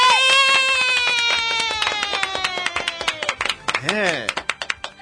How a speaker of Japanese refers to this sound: おかげさまで知ってる就活今日でですね、放送を300回目でした。拍手。